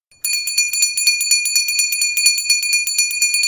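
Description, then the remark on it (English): A loud, rapid electric factory bell rings continuously, its bright metallic clatter repeating fast and steady for several seconds with no other sounds around it. “As she waited, the factory bell rang.”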